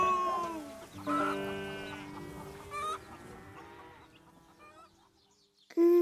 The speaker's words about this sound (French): Un petit nouveau à la ferme. Cocorico! Cocorico!